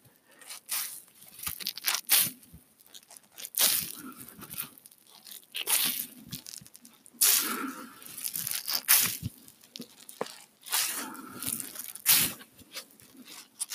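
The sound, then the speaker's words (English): The last of several wet towels being handled, with irregular bursts of crinkly, rustling friction and soft squishing scrunches that come in uneven waves, moderately loud, with no voices. The towel is only lightly wet, not soaking or dripping. “Okay, here's the final wet towel.”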